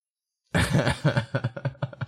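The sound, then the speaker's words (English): A fairly loud fit of coughing from the role-play character Argus in a smoke-filled scene: one longer hacking burst followed by a quick rhythmic series of shorter coughs, with no talking. “Argus starts coughing.”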